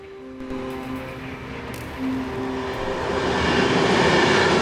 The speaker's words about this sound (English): A long, angular concrete building running the length of some railway tracks. A train speeds down the track.